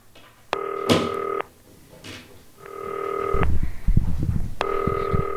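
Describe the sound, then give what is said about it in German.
A call is dialed to an expert on a green telephone: a brief dialing sound gives way to an electronic ring tone, sounding in three evenly spaced buzzing bursts of about a second each, with low rumbling noise underneath the later rings. “Klingelt aber jetzt.”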